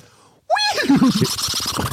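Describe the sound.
After a brief quiet moment, a person's voice bursts into a loud imitation of a horse's whinny, a wavering, pitch-sliding neigh that breaks into shaky, snorting pulses.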